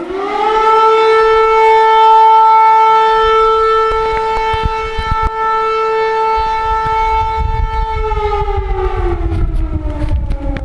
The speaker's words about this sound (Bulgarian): Населението беше уведомено с пускане на сирени и с помощта на селската камбана. Обявявам тревога, вдигнете населението.